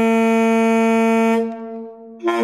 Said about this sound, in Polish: To jest trąbka z lokomotywy, sygnał dźwiękowy.